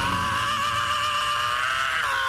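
A singer's scream from a rock song: one long, strained, high note held steadily for a couple of seconds, dipping slightly near the end. It's loud, with no talking.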